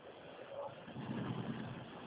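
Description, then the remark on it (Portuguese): A steady, low bus engine rumble drones on throughout, with a slight swell midway as the bus creeps along at low speed while being maneuvered to park. No one speaks. “Você não pode parar o ônibus enquanto não está certo.”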